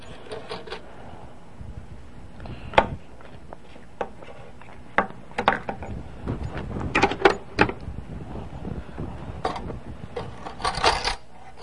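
Coins clink and drop in a scattered series of sharp metallic hits, some bright, spread irregularly over a low background rumble with a dense rattling burst near the end.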